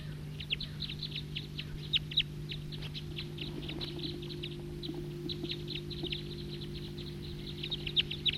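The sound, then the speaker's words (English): A male bird calling with a rapid, irregular series of short, high chip notes that run throughout, some louder than others, over a steady low hum. “And there's another male calling there.”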